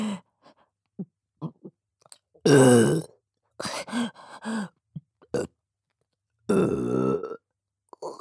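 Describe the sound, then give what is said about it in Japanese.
Two long, loud, throaty burps ring out, with several shorter, softer burps and small mouth sounds scattered between them. No one speaks. “こんなにゲップしたらまた我慢できなくなるかも。”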